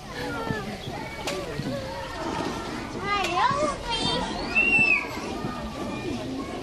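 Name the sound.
children playing and chattering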